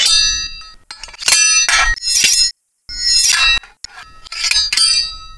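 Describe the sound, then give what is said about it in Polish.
A knight's lowered lance, charged with fury at the first windmill, strikes its sail in a rapid series of loud, ringing metallic clangs with bright, bell-like overtones, broken by a brief silence midway before more blows follow. “zasłonił się dobrze tarczą, zniżył kopię i z całą furią na pierwszy wiatrak się rzucił i srogi cios w skrzydło wymierzył.”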